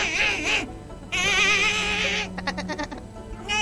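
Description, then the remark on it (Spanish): In a studio, a baby squeals in high, warbling, dolphin-like bursts, several rising and wavering cries, followed by a quick stutter of clicky, pulsing squeaks. “Hay un nene y un delfín.”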